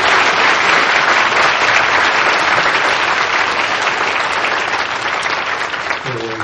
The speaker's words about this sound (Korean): 우리 교회 학교 어린이들, 또 수고한 교사 선생님들, 교역자, 우리 교회 학교 어린이들 위해서 박수 한번 쳐주세요.